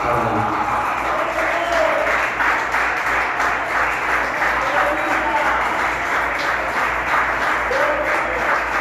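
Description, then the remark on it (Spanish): Loud, sustained applause from a large church audience as praise to God, a dense steady roar of clapping that holds at full volume for the whole stretch, with a few cheers and voices mixed in. “Y eso es maravilloso y merece un gloria a Dios y un aplauso fuerte, fuerte.”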